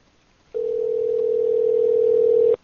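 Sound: telephone call ringing tone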